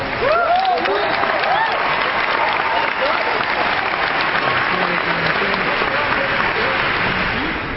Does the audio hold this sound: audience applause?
yes